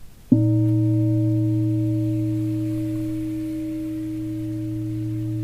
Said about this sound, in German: Und dann klingt der Gong.